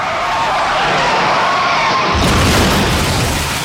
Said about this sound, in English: The driver's sudden braking catches another driver off guard. The fast-moving sedan slams into the slower station wagon, spinning at 180 degrees.